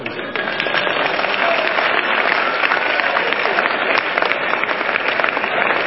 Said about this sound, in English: Are you clapping your hand for Jesus?